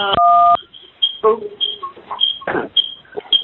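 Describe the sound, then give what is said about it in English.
A single loud telephone keypad button tone, pushed by a participant on a phone meeting, sounds for about half a second at the start, a steady dual-pitched beep, followed by people talking over the phone line. “I think somebody's got some background noise going on, so be careful about your phone buttons. I know they're easy to push, but please be careful.”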